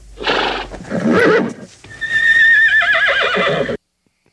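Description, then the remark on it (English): A horse lets out a loud whinny, starting with rough snorting bursts and rising into a long quavering neigh that warbles for about two seconds before cutting off abruptly. “Here's the horse's response.”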